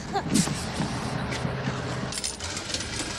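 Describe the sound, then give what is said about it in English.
A city bus pulls up with a steady low engine rumble under broad traffic noise, broken by a few short hissing bursts like air brakes releasing. “There go the bus.”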